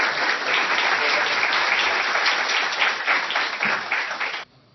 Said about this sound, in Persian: تشویق کنین